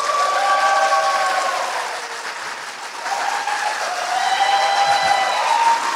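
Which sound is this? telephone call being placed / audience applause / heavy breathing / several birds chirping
audience applause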